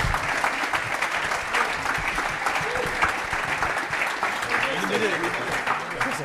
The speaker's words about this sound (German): Oh, da kommen die beiden. Weil über den haben wir auch schon viel geredet. Großen Applaus. Einmal Applaus.